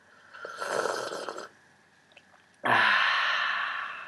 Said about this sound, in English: I drink tea during it, so if you hear this noise, that's just a disgusting noise I make while I slurp hot tea, because I'm that sort of person.